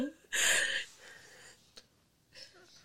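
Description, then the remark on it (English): A yawn: a loud, breathy rushing inhale that fades into a long, softer airy exhale, with a small click and a brief faint breath at the end. No talking. “Oh, excuse me, I'm yawning.”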